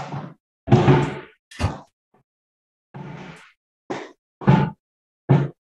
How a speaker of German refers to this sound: Ich mach mal kurz Fenster zu. Einen Moment.